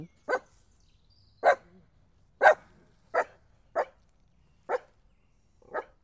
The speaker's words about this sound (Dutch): Kijk, er komen twee hondjes aangelopen. Dus Magic wil er natuurlijk naartoe.